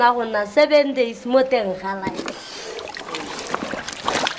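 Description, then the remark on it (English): A voice talks briefly, then gives way to splashy water sounds: an animal skin lifted from a tub of lime water after seven days of soaking and the lime and water squeezed out, with steady dripping and trickling over a few seconds. “I squeeze the lime and water out of the skin.”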